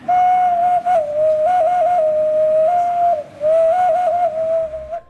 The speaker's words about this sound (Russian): И с этого образца начали с ним лепить котиков. А еще он свистульчик.